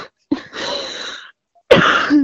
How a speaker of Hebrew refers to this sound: אבל תקשיב, אני כבר איזה שבועיים משתעלת.